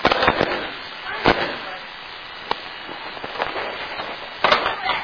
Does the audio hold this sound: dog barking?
no